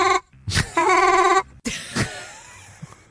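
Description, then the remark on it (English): Slowed-down laughter of a rat being tickled, lowered into the human hearing range because it is normally inaudible: a few loud, wavering, squeaky tonal calls rich in harmonics, broken up by short breathy bursts and brief gaps, with no talking over it. “that's a rat laughing that's while it's been tickled”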